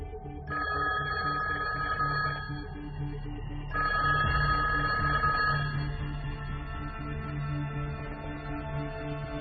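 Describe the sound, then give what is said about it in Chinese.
A telephone rings twice in steady electronic bursts, each about two seconds long with a short pause between, clear over a low, steady background hum; a colleague's call to FBI China counterintelligence chief I.C. Smith one day in September 1982. “1982年9月的一天，美国联邦调查局中国反情报组组长 IC 史密斯接到同事的一通电话，美国中央情报局刚刚向他们透露了一条重磅消息，他必须马上到联邦调查局总部来一趟。”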